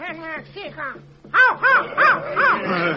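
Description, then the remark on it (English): A crow caws in a loud string of about five harsh, rising-and-falling calls, preceded by a few softer, quicker calls over a faint low hum. “Great chief, your brother Crow says you have failed your people.”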